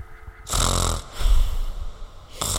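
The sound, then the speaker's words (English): A voice imitates a man's deep, rattling sleeping snores: two long, loud inhaled snorts, a brief pause between them, and the start of a third at the end. “Like deep snore, like deep sleeping snore.”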